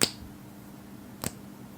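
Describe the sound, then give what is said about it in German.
Two sharp, dry clacks like fingernails tapped on wood, made on purpose about a second apart, each crisp and brief, with a low steady hum in between and no talking. “So ein Klatschen, ja, oder wenn die Fingernägel am Holz klackern.”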